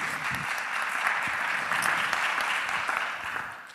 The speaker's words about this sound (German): Einmal kurz einen Applaus, dass er da ist.